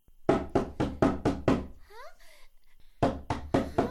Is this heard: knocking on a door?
yes